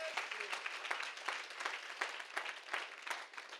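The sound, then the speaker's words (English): An audience claps their hands to God in steady, overlapping applause, a dense crackle of many hands with faint voices mixed in, holding an even loudness throughout. “Would you clap your hands to him for just a moment?”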